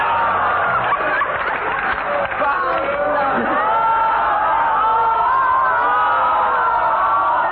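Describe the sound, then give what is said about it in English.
A large crowd of peasants gathered in the streets of Moscow cheers and shouts together, a dense, steady roar of many voices with whoops and yells rising out of it, loud and unbroken throughout. “In the streets of Moscow, crowds of peasants gathered, and in one street, a man called Lenin climbed a lamp post to address the crowd.”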